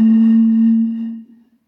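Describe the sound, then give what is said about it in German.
A single hollow, breathy tone from blowing across a small bottle's mouth, held steady for about a second before fading out. It is fairly loud, with no talking. “So hört sich das an, wenn man in ein Pintchen pustet.”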